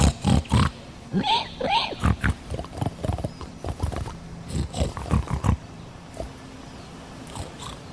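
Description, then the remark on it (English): Voices speak 'Hog Latin', mimicking a pig's snuffling and snorting in a rapid series of short, breathy grunts for several seconds before trailing off into quiet background noise. “I think if you're doing something I can't understand, you don't have to do it gently and quietly and snufflingly.”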